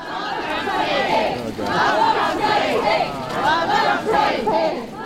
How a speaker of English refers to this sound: As he's standing there, a woman breaks from the crowd and heads straight over to him. She gets inches from his face and starts screaming at him. Oh man, woman is up in his face.